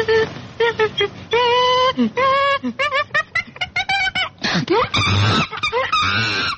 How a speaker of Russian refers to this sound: Обезьяна.